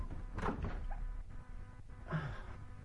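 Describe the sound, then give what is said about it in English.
A door is pulled open with a couple of soft thunks and a low creak over a quiet background with no one speaking. “I'm going to open this door.”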